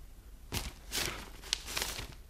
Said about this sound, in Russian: Муромский поднимает пакет.